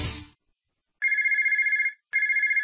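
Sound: telephone ringing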